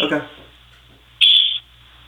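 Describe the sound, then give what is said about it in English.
A short, shrill chirp from a pet bird in an office rings out clearly for about a third of a second, following a brief bit of voice at the start, with a faint low hum underneath. “Otherwise, you'll hear my birds the whole time.”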